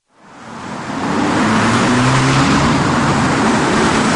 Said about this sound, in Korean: 현대인은 소음에 파묻혀 산다. 거리를 건너라면 버스, 자동차, 냉난방 실외기가 내뱉는 소음이 아무 방해 없이 청신경에 도달한다.